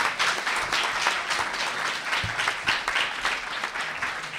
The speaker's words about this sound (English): Let's give him a really big round of applause. He came all the way from Puerto Rico for this event.